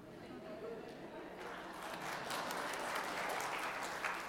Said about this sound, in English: I wish you hadn't clapped.